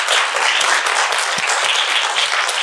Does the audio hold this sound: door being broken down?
no